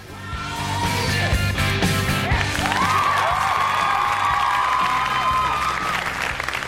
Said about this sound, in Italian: Applauso a questo signore napoletano, applauso.